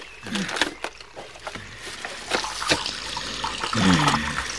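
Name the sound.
water spilling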